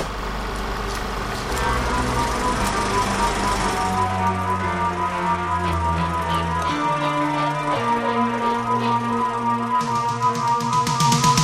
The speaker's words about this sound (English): Oh, it's the MGM lion roar.